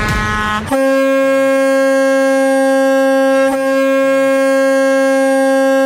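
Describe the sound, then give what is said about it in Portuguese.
Loud truck air horns blare in long, sustained blasts, shifting pitch after the first second and briefly breaking midway before droning on to the end. No one speaks. “ao top de 3 buzinaços.”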